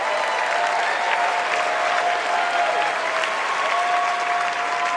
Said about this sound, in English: So that gets decent applause.